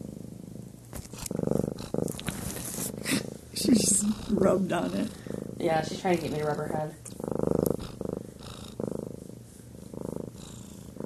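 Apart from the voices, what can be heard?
cat purring loudly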